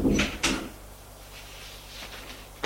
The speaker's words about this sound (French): Elle entre. Elle ferme la porte.